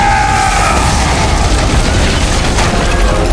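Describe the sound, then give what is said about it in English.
A loud explosion blowing out an entire stone wall, its deep, roaring rumble holding steady for several seconds, thick with crackling, debris-like noise, with no voices. “Solon blew out the entire wall.”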